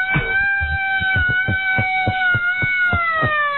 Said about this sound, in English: It's not a sound effect. It's no, an actual General Electric Company Chicago issue, mm-hmm, real old-time siren. And if you really crank it, you know, like a hand crank civil defense siren.